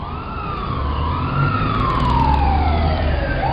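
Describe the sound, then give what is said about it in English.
Emergency sirens from an ambulance and a police car arriving at a car accident near the post office on Charles Street wail loudly, their pitch sliding up and down over a steady low engine rumble, with no voices. “They're going to send an ambulance and a police car right away.”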